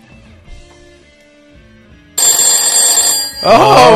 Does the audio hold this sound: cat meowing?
no